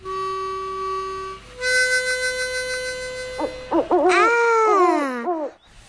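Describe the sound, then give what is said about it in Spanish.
Owl hooting for La Lechuza 88.3, the first community radio of San Juan, Argentina: two long, steady, loud hoots followed by a quick series of wavering, sliding calls, with no talking, ending in a brief silence. “La primer radio comunitaria de San Juan, La Lechuza, 88.3.”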